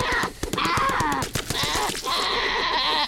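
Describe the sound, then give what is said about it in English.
Goats bleat repeatedly in a dense, loud clamor in a video game as goats are killed at a farm for food, layered with sharp percussive bursts like gunfire cracking throughout, continuous without pause. “We need to kill goats.”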